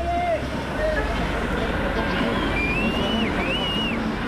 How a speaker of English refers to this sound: Endless lines of cars are slowly moving through the city centre of Nairobi. Notorious minibuses called matatus are honking loudly, trying to shoulder their way through the traffic jam while thick blue diesel smoke is taking over the air.